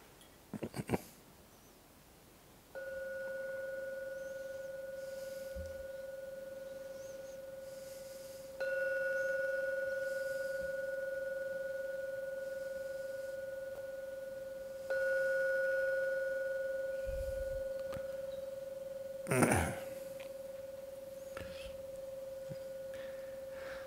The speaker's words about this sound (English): I'm now going to ring the gong 3 times to end the meditation. With the last sound from the gong vanishes, open your eyes.